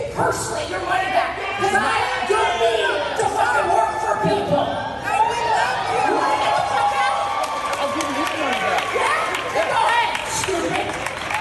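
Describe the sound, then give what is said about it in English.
A large audience at a stand-up comedy show cheers and whoops steadily, with scattered clapping and overlapping voices forming a dense, continuous roar that stays loud throughout. “Hey, the crowd's with her.”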